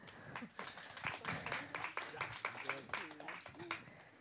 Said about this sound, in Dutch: Applaus.